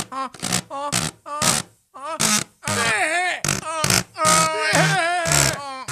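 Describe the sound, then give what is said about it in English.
A voice makes a string of buzzy, sputtering fart noises with the lips, starting as short bursts and stretching into longer, wobbling, pitch-bending raspberries, fairly loud with no talking. “The sonic farts happen all the time.”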